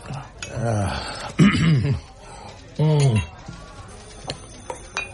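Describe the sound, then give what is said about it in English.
A person coughs and clears their throat in three rough, throaty bursts over a few seconds, followed by near quiet with a few faint clicks. “You should do something about that cough.”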